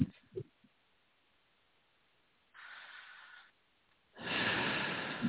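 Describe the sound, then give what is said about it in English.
A soft breath drawn in through the nose, a short pause, then a louder, longer breath pushed out through the mouth, clear, with no talking. “Just keep breathing, just in through the nose and out through the mouth.”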